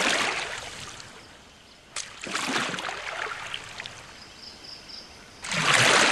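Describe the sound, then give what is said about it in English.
Water splashes and swishes in bursts as a paddle dips and pulls a canoe along a flowing river, with a steady trickling stream underneath and a louder surge of rushing water at the end. “You embark and make your way back along the river.”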